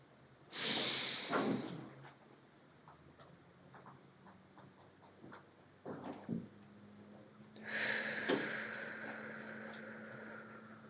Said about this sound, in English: An alternative to meditation is called box breathing, where we're breathing in for 4 counts, holding it at the top for 4 counts, and breathing out for 4 counts. I'm going to demonstrate it for you, and then we'll do it together.